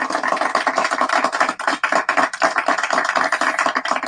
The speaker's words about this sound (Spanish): Aplauso, por favor.